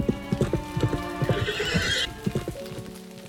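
Hooves clip-clop in a steady rhythm as a horse-drawn carriage rolls along on a 500-kilometre journey home to New Haven, with a horse's whinny rising briefly in the middle before the hoofbeats continue.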